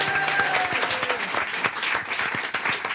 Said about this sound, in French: Applaudissements pour Colombe Schneck.